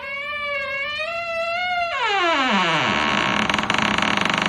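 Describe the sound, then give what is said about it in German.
A creaky door-opening sound effect played from a sound file on a PC: a long, steady squeal that wavers slightly, then bends sharply downward in pitch and dissolves into a harsh, buzzing rasp. No one speaks. “Ihr glaubt doch nicht ernsthaft, dass ich hier irgendeine Tür geöffnet habe.”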